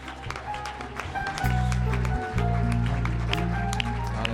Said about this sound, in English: Let's give the Lord another hand clap of praise this morning.